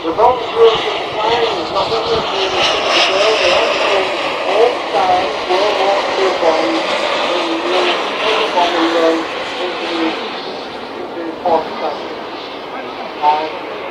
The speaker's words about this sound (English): We've got three jets in the sky now. Here comes the Vulcan again. An amazing sight that is. It's like a real plane.